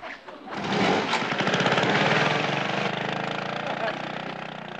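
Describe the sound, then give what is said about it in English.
A small motor scooter engine sputters to life after a brief pause, then settles into a loud, steady, buzzing putter that fades slightly as it drives away. “Then we're going for a ride on my motor scooter.”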